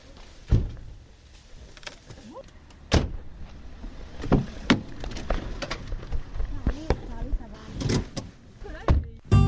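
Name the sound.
car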